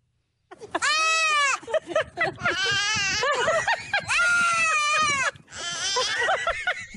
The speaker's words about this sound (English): There's a video of a woman holding her baby and then her friend right next to her holding a baby goat. And the baby goat and the baby are like going back and forth. Like, you really can't tell which one is which.